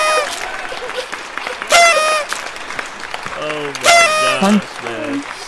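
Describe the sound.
A recorded applause sound effect played from a soundboard rolls steadily through the whole stretch, with a couple of loud bursts of cheering and several people talking and laughing over it.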